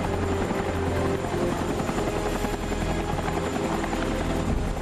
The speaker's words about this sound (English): An FBI agent stands on a rooftop, ushering down a shiny deep blue helicopter.